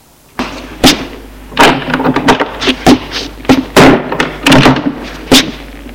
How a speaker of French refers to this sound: Et il sort de la chambre en claquant la porte.